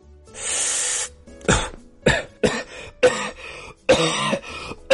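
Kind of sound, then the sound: human body sound, coughing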